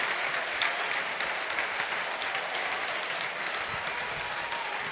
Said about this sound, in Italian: Gli applausi meritati comunque per Pellegrino, grande sacrificio e un gol quasi fatto con quel bellissimo colpo di testa, a fronte però di due gol sbagliati.